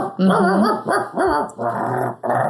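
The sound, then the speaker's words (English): A person imitates a dog, making about five loud, rough, growling barks in quick succession with barely a pause between them. “And I love at the end of the session, usually, when you catch a wave in and get on all fours and bark like a dog.”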